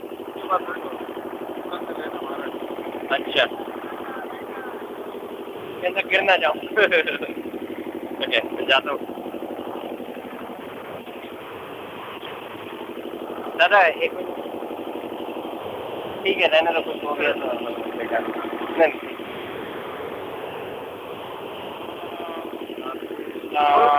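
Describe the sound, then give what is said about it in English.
A steady rickshaw engine drone hums throughout, the rickshaw carrying devotees and riding on a boat during a parikrama, with short bursts of louder clatter and indistinct voices mixed in. “There is devotees right in the rickshaw, and the rickshaw is on the boat.”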